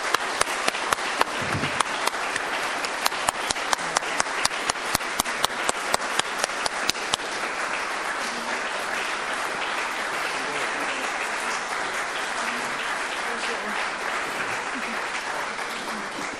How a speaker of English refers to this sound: Okay, we're gonna close the meeting, but I'd like to give the team a great round of applause for this wonderful presentation.